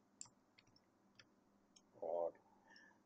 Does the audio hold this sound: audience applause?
no